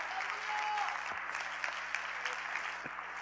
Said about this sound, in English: And if you've ever had that experience, would you clap your hands right now like it's, you know what that is.